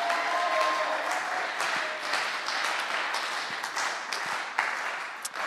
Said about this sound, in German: Ja, und dann nochmal einen richtigen Applaus für Apostelgeschichte 2, 42 bis 47.